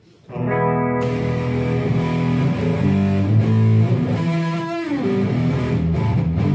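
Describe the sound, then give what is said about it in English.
Loud electric guitar through a Big Muff fuzz pedal, thick saturated chords sustaining continuously for several seconds, with a brief pitch slide near the end and no voices. “Don't you love it? Pure white noise.”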